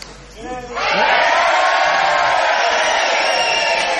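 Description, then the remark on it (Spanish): A live crowd at the Sala Galileo Galilei in Madrid, Spain, erupts into a loud, sustained collective shout that starts abruptly after a brief voice and holds steady and dense for several seconds. “Vamos a gritar todos a una.”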